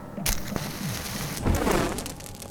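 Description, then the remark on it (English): A sharp burst as a fire set with coal oil catches, followed by a dense, crackling roar of flames that swells midway through. Fairly loud, with no voices. “Light it up.”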